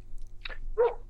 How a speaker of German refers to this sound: jetzt bellt der Hund.